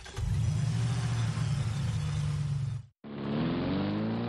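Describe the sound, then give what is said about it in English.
A large truck engine revs loudly, a deep steady roar that cuts out briefly, then returns with its pitch climbing as the engine accelerates. “Maybe some do, but I think most people just think they look cool driving a huge truck.”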